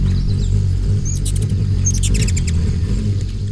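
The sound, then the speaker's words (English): A low, steady whirring hum of a ruby-throated hummingbird's wings as it whizzes past in late April in the Northeast, with quick, high squeaky chirps breaking in twice around the middle. No one speaks. “A tiny bird just whizzed by like a bullet.”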